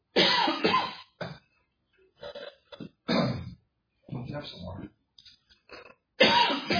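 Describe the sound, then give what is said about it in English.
Several harsh coughs and throat clearings burst out in uneven bursts, separated by brief pauses, with a few quiet spoken words in between. “Oh, man, that cough just knocked my thought out of my head.”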